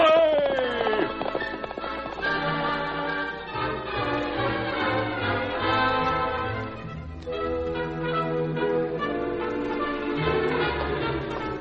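The galloping hoofbeats of Silver, the Lone Ranger's great horse, pound along steadily beneath loud, brassy orchestral music that fills the whole clip, the rapid rhythm continuing without a break.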